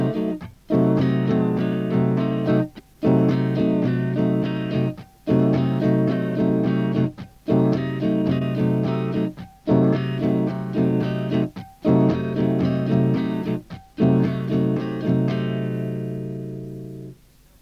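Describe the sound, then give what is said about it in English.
An 8-measure rhythm track repeating a sustained C diminished seventh chord, struck about eight times in steady succession with brief breaks between, loud and alone, the final chord left ringing out and fading. “Here is an 8-measure rhythm track of C diminished 7.”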